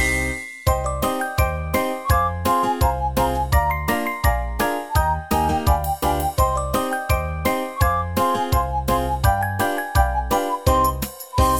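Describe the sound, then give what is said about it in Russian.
Bells jingle continuously in a bright, rhythmic pattern, shaking in steady repeated bursts with ringing tones throughout, loud with no voices. “двери звон слышится со всех сторон.”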